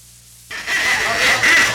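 After a brief silence, a nervous duck at Lake Central erupts into loud, raspy, nasal quacking that runs on continuously, sounding agitated and jittery.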